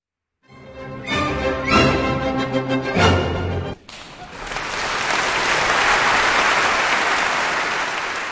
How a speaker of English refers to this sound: That applause is for the Vienna Philharmonic Orchestra and its conductor Carlos Kleiber, with music from composer Josef Strauss from a New Year's Eve concert from a few years back.